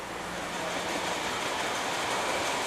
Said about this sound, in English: This is where the soup gets filled in to the cans. Uh-huh. Soup comes down from the kettle upstairs where we saw it, down through this pipe into the filling machine.